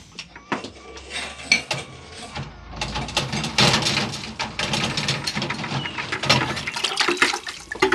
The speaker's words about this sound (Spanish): Se produce un lejano rechinido y un movimiento de las aguas del estanque.